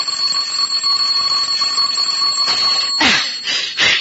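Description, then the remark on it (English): A doorbell rings continuously with a loud, steady electric jangle, then a few sharper clanging bursts near the end, with no voices. “I said the doorbell. What about it? It's ringing.”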